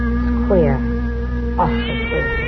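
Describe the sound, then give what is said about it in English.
A cat yowls twice in drawn-out, wavering wails, one early and one midway, fairly loud over a steady low background hum, as it jumps up onto a wall. “Look at what that cat's doing, will you? Jumping up on that wall like it's gone crazy.”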